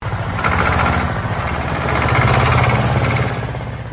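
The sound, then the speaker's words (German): Heavy diesel engines of tractors and trucks idle steadily as dairy farmers blockade roads and motorways in protest, a low rumbling drone with a pulsing throb, holding constant for several seconds with no voices heard. “Mit Traktoren und LKWs haben die Landwirte nun 20 Straßen und Autobahnen in 7 Landkreisen blockiert.”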